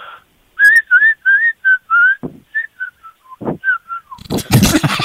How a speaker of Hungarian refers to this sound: Várjál, veszek egy nagy levegőt. Azt hiszem, hogy várjál, leveszem a szemüvegem. Kiveszem a fogam. Várjál, kiveszem a felső fogsorom. Úgy sokkal jobban fütyülök.